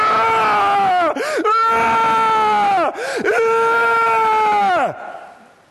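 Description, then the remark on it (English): A voice imitates a woman's screams in labor: three long, strained wails separated by sharp gasping breaths, loud, ending in a fading moan. “What did the labor ward sound like?”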